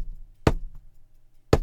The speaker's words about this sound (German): Ein Pochen an der Tür ist zu hören.